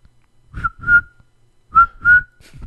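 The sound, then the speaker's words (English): Someone whistles a mock cricket chirp: two pairs of short, mid-pitched whistled notes separated by a pause, breathy and fairly loud, with no talking. “I can't do cricket noises.”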